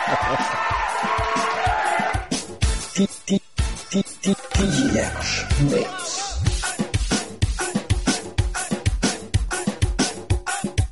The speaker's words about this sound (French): Voilà, tout le monde vous applaudit.